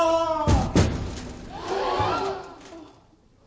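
A loud, heavy thud of a man falling through an open trap door on a theatre stage during a performance, with a second impact right after, followed by a stir of startled voices and commotion.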